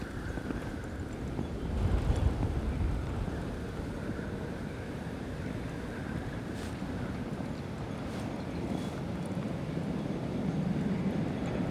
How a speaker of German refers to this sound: Ja, und immer wenn man den Wind hören will, kommt natürlich eine S-Bahn.